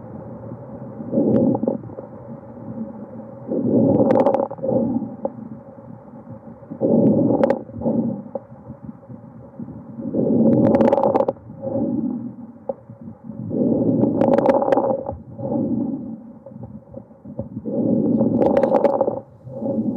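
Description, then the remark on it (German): Typical auscultation finding of lung crackles in pulmonary fibrosis: about six steady, low rushing breaths, each carrying bursts of sharp, fine crackling clicks, with no voices present. “Und hier hören Sie einen typischen Auskultationsbefund eines Knisterrasselns bei einer Lungenfibrose.”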